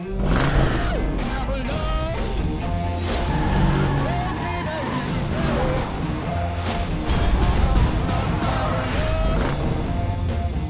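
A film trailer plays with a dense, loud mix of roaring car engines, whooshes and sharp impacts over a driving score, constant and busy throughout with brief voices surfacing.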